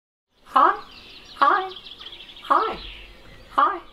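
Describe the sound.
A raven mimics human speech, producing four short, voice-like utterances spaced about a second apart, each with a slightly raspy, croaking edge, clear against a quiet background.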